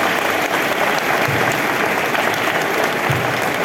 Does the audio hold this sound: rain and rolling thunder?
no